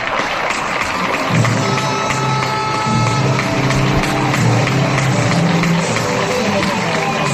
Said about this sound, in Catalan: Aplausos en algunos barrios de Palma. Me llega este sonido donde incluso suena el himno de España.